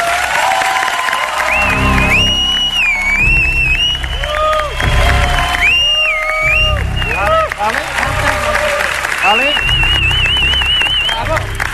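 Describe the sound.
A crowd bursts into loud, sustained applause for an applause-meter tiebreak vote, with dense clapping running the whole time, layered with shrill whistles rising and falling and scattered cheering voices.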